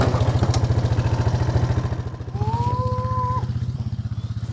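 A camo-colored ATV engine chugs along steadily as it drives up from the pasture to the corral, its low, rapid pulses loud and continuous throughout, with a brief sustained tonal call rising over it partway through as the rider calls the cattle from the seat.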